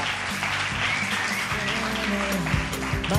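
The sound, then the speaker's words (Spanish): A crowd on a Radio UMH programme applauds Jan Novoa steadily for about three seconds, a dense, even wash of clapping at a fairly loud, constant level, with some voices or tonal sounds faintly mixed underneath. “¡Un gran aplauso para Jan Novoa!”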